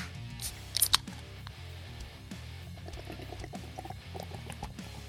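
A couple of sharp clicks as beers are cracked open, then Rusty Rail Brewing Fog Monster New England IPA pours steadily into a cup, a continuous gurgling, splashing stream that holds at a moderate level for several seconds with no one talking.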